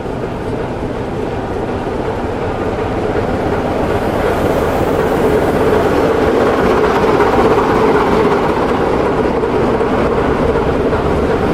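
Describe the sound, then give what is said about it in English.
A heavy old diesel locomotive, D5061, rumbles steadily with a deep engine drone, hauling a train; the low growl stays loud and constant throughout, with faint rolling clatter of wheels underneath. “the traction engine itself, an old diesel hauling.”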